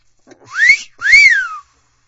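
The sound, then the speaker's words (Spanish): A two-note wolf whistle rings out clearly, a short rising sweep followed by a longer rise-and-fall glide, loud with nothing else around it. “cuando Jacobo vio a Raquel a la distancia, le chifló, como se utiliza en nuestros tiempos”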